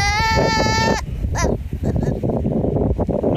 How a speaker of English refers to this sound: All right, let's go to this guy arguing with his baby goat. Yes, I heard that. I said that correctly. A guy arguing with his baby goat.